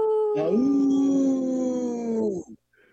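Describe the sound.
A wolf howls in one long, sustained note that rises briefly at the start, holds steady and tonal with rich harmonics, then fades and cuts off after about two seconds.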